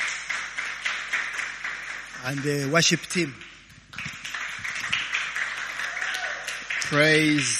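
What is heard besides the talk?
audience clapping hands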